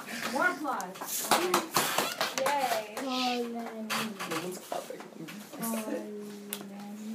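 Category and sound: crowd, children applauding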